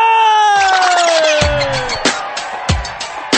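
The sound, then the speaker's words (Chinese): A crowd at the eighth anniversary celebration of Vitality City (活力城) screams and cheers loudly at the host's call, with one long, falling shriek riding above the noisy din and several sharp thumps punctuating the roar toward the end. “普天同庆，齐高歌，欢声雀跃，活力城八周年庆典现在开始，你哋的尖叫声啦！”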